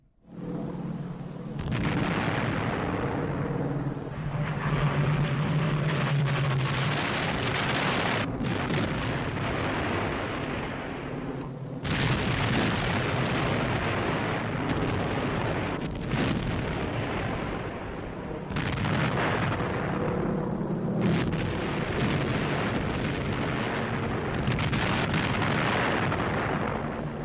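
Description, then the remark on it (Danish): A dense, roaring battle soundscape of explosions and gunfire from the Oslofjord on the morning of 9 April 1940, as Germany begins its invasion of Norway, with heavy booms bursting out every few seconds over a continuous loud rumble of shelling. No one speaks. “Ja, det vi hører her, det er et lydbillede fra Oslofjorden i tiden om morgenen den 9. april 1940, hvor Tyskland indleder invasionen af Norge, og jo også Danmark, og faktisk over hele Norge, fordi det sker samtidig,”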